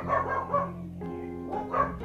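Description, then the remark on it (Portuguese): A dog barks several times in a quick cluster, pauses, then barks again, over a steady low electrical hum. “Ai, peraí, cachorro de novo.”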